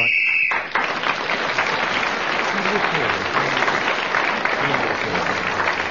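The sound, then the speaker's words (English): A short, shrill whistle blast ending a round of a panel game sounds for under a second, then breaks into steady, loud applause from an audience that carries on to the end. “Well, Clement Freud, speaking as the whistle went, gained an extra point and has regained the lead at the end of that round.”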